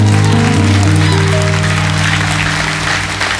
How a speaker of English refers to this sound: that clap was for God. Lord, we thank you.